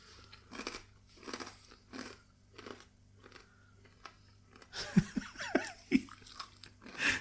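Wet crunching as someone chews crisp, spicy food right up against the microphone, with steady rhythmic bites that grow louder and crackly toward the end. No one speaks.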